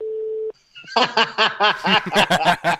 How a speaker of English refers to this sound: Hey! Hey, pick up your damn phone! Don't make me wait!